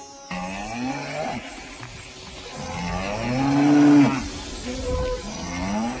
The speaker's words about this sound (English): When Sri Chaitanya Mahaprabhu passed through Vrindavan, herds of grazing cows saw him pass, and immediately surrounding him began to moo very loudly.